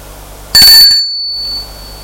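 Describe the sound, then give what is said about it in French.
A doorbell at the door of an apartment sounds once, a sharp bright ding whose high, thin tone rings on and slowly fades over about a second, with no voices, just quiet background hiss. “Sonne à la porte de l'appartement de son père.”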